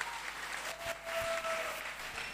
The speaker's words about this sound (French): Fraternité. Oui. Donc on retient ce mot. On applaudit pour ce mot.